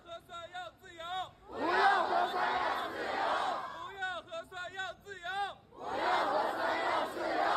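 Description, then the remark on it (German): A crowd of hundreds of protesters, facing three rows of police behind street barricades, chants and shouts slogans calling for no more Corona tests and for freedom, in rhythmic bursts: loud rising calls alternating with sustained roaring from many voices, repeating in waves. “In 3 Reihen hintereinander stand die Polizei einer Menge von hunderten Menschen gegenüber.”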